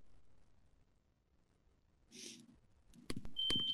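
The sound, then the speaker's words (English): A telephone starts ringing near the end, a loud, shrill electronic tone with a couple of sharp clicks, following a quiet stretch and a brief breathy sigh. “Oh, let it ring! Let it go on ringing, I won't answer it!”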